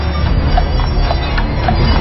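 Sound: horse hooves clip-clopping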